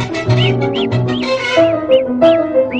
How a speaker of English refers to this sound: Bird songs are not just random notes. They are tunes produced for a specific purpose and bear a specific message.